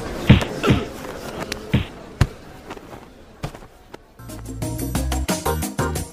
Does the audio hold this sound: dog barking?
no